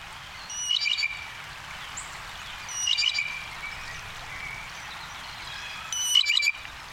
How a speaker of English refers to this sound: They're all around us, those busy musical jays.